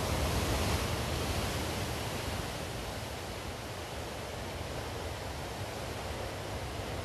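ocean waves

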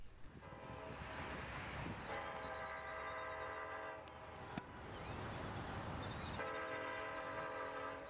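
train horn blowing

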